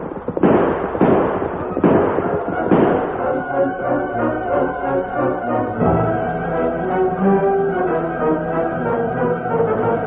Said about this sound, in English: What's that? Gunfire.